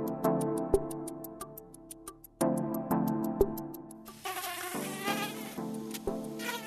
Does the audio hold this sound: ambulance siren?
no